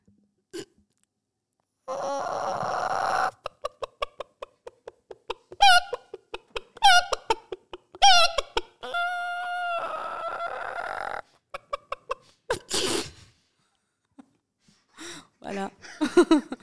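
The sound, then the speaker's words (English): A woman imitates a chicken, making a run of rapid, rhythmic clucks and a drawn-out squawk, fairly loud, with a few short vocal bursts trailing off at the end. “So you have to do the chicken sound now.”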